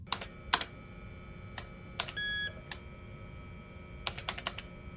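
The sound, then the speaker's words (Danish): Clattering keystrokes on the keyboard of a brand-new Epson AX286 personal computer on 11 November 1987 come in short irregular bursts, with a brief electronic beep partway through and a quick flurry of keys near the end. “Bent Skjold Nielsen sidder ved sin spritnye Epson AX286 personlige computer”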